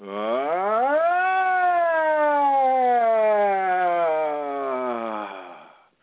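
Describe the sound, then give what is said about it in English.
A lone human voice does a vocal siren, sweeping quickly upward and then gliding slowly down in pitch over several seconds, steady and fairly loud, imitating a siren. “And oftentimes on the other side of just running a siren, you can twist and turn your body to help move any of the energies that seem to be stuck or wanting to go by the next siren.”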